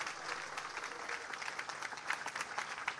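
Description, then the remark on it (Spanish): Sustained applause from a crowd for Santiago Peña, president of Paraguay, a dense, steady patter of many hands clapping at once with no breaks, fairly even in loudness across the whole stretch. “Ayurepe, este aplauso, Marete, Santiago Peñave, presidente de la República del Paraguay.”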